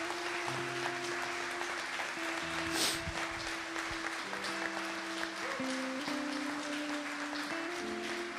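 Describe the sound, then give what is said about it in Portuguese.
A crowd claps in praise of God continuously for about eight seconds, a dense, steady patter, while sustained keyboard chords hold and shift underneath. “Aplauda mesmo.”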